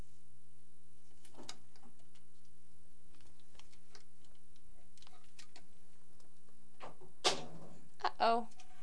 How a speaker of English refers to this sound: Uh-oh. Did you knock it in the tub? Yeah? Where'd it go? Yeah? Did it fall in there?